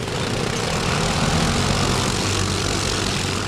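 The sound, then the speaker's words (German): A quad bike engine in the Gantrisch area, the hilly pre-Alpine region between Bern, Thun and Fribourg in Switzerland, drones steadily at a constant loud level, with a low harmonic rumble under a broad rough roar and no voices. The engine note barely changes from start to end. “Im Gantrisch fahren neuerdings auch Quads durch die Gegend, vierrädrige Spezialtöffs.”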